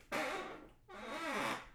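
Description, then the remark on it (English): Two drawn-out creaks from a chair, each a raspy, wavering groan lasting most of a second, fairly loud with a brief gap between them and no voices. “Just to be clear, in the background, you're hearing creaks from my chair, not farts.”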